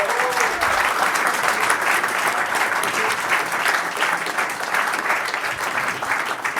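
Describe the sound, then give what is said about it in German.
A crowd applauds all the participants after round one of a contest, dense clapping that holds at an even, loud level for several seconds without letting up, with no one speaking over it. “Und wir hätten gerne mal einen riesigen Applaus für alle Teilnehmer.”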